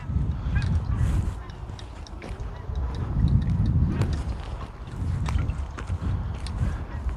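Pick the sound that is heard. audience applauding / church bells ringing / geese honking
geese honking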